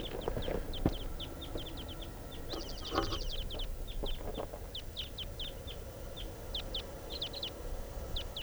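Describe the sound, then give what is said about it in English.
The flight song of a type 2 bird in the wild, one of a pair that has just taken off: a rapid, continuous run of short, high-pitched chirps and trills, fairly loud, over a steady low rumbling background with no voices. “Flight song in the wild type 2 bird.”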